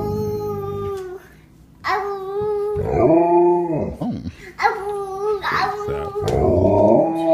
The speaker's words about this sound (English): we close with a young boy. He looks about to be 2 years old, having a conversation with his Alaskan Malamute. Oh, big dog.